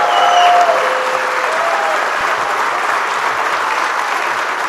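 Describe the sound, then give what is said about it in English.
A large crowd applauds Hall of Famer Bud Grant steadily and loudly, the dense clapping sustained for several seconds, with a few faint whistles or cheers rising over it near the start. “Hall of Famer, ladies and gentlemen, a round of applause.”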